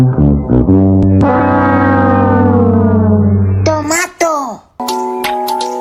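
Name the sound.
baby crying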